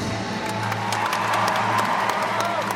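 theatre audience applauding

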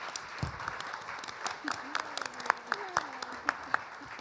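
audience round of applause

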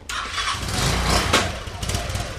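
motorcycle engine starting

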